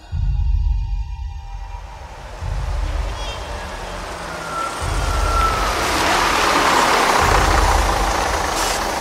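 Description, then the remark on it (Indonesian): A late bus arrives at about 5:45 in the evening with a heavy, rumbling diesel engine that settles into a steady idle, its low throb pulsing in slow cycles beneath a broad hiss of traffic noise. No one speaks. “Setelah lama menunggu, bis itu pun akhirnya datang.”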